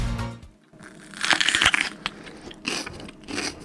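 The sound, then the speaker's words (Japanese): Crisp, wet crunching of someone biting into a whole raw bell pepper (paprika) and chewing, a loud burst of crackly bites followed by several softer, irregular chews with no talking. “僕が持ってきたのはパプリカです。”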